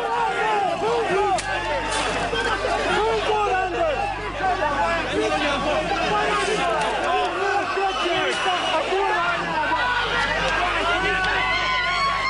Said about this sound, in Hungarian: kikerülni a rendőrkordonokat, a délutánra több ezresre duzzadt tömeg viszont már szembe ment a rendőrökkel. Itt kezdődött minden akkor a délelőtti órákban, a Kossuth térre vezető utak kordonjai előtt. Akkor még kisebb volt a tömeg, de nem tágítottak.